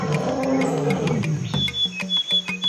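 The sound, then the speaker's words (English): A male elephant seal's deep, rumbling roar swells, then breaks into a series of rhythmic, throbbing pulses, loud, with faint high chirps in the background. “Male elephant seals recognize the unique calls of their rivals, helping them to know when to fight or when to flee.”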